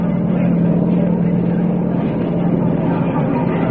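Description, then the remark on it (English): Engines of nine biplane fighter planes, each with two machine guns and a few bombs, flying in at dawn toward Kong, drone steadily: a loud, continuous low rumbling hum with a buzzing edge that holds even throughout, with no voices. “The fighter planes were coming in, biplanes, each with 2 machine guns and a few bombs.”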